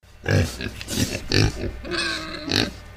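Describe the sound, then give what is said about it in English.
Pigs grunt and snort in a pen at Eckwok Lodge in a quick series of loud, rough bursts, with a drawn-out squealing grunt near the end and no voices. “The smell of soured salmon and pig muck hangs in the air”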